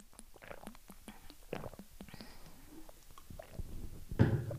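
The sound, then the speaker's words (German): A quiet stomach growls and gurgles in irregular bursts, with soft clicks and squelches, swelling into a louder low rumble near the end. No one speaks. “Ich muss erstmal einen Schluck trinken und mein Magen knurrt die ganze Zeit.”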